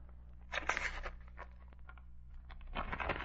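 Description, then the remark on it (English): An envelope holding a letter left under a door is torn open, the paper ripping in two ragged bursts of crisp tearing and crinkling, separated by a short pause of small rustles, over a steady low hum. “printed on the envelope.”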